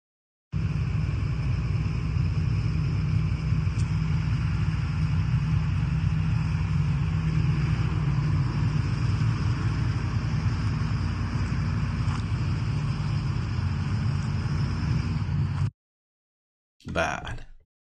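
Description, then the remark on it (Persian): A steady, heavy low truck engine rumble runs continuously for about fifteen seconds, loud with some wind noise, at the Shiraz refinery in Iran during a truck drivers' strike, then cuts off abruptly before a brief burst of noise at the end. “اعتصاب کامیونداران پالایشگاه شیراز.”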